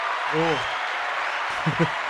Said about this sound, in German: Ah, ja, dann müssen wir doch mal einen Applaus machen.